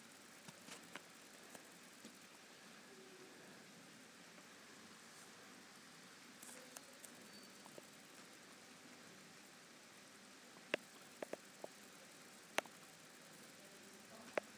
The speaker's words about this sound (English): It's still raining.